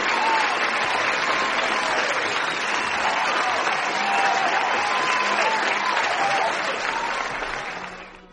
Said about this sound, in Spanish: prepara ahí un aplauso de júbilo. Ahí va, grandísimo viejo.